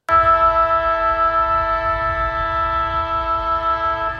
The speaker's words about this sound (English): All right. That's a real siren.